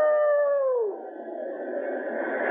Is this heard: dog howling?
yes